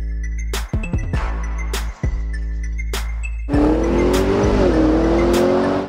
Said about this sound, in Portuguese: Bom, já falei demais com o carro parado e o negócio desse daqui é andar. Vamos lá que eu vou te contar como esse carro é um monstro em movimento.